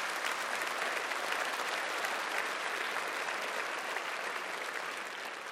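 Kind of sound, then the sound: crowd, audience clapping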